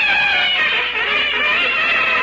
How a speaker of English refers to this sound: Have you built up that new fanfare? Have I? I'm using two trumpets. Read off the newsreel over there. I'll show you how it sounds.